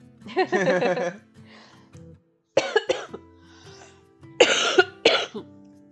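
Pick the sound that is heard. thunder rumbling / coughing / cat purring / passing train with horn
coughing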